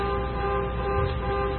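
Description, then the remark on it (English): A car horn sounds in one long, unbroken blast, a steady brassy tone holding at even loudness throughout, with no one talking over it. “I wonder whose car that is.”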